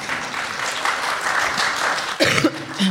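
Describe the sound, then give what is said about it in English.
A light smattering of applause, a steady patter of scattered clapping from a small crowd, with a brief cough or throat-clearing breaking through near the end. “I love you for that smattering of applause.”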